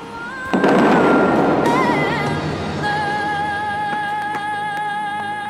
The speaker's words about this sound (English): As the song picks up, the water blasts hundreds of feet into the sky. The force is so powerful, it sounds like a cannon.